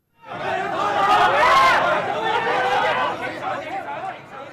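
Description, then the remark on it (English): A steady, dense murmur of many overlapping voices chattering at once, with no single speaker standing out, holding at a constant moderate loudness: a crowd of commuters on the platform of Fortress Hill Metro Station on Hong Kong Island at 7:30 in the morning. “This is what it was like when I was standing on the platform of Fortress Hill Metro Station in Hong Kong's island at 7:30 in the morning.”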